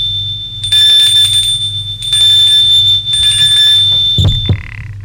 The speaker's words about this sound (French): Il suit la route de gravier qui mène jusqu'à la maison. Monte le perron. Sonne à la porte.